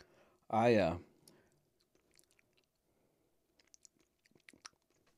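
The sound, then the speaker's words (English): A brief loud voiced sound, then quiet chewing of a snack that bursts in the mouth, with soft wet clicks and small crunches scattered over several seconds. “They really do, like, just explode.”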